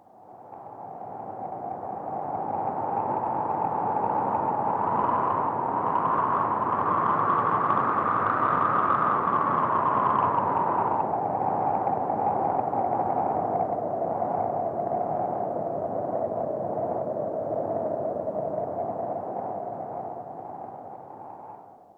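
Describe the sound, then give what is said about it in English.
Wind blows steadily for the whole stretch, a broad rushing hiss with a hollow, moaning tone that slowly rises in pitch and then sinks again. No voices are heard. “The wind.”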